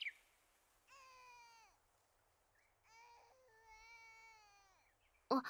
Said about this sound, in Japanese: お隣の家の赤ちゃんの声。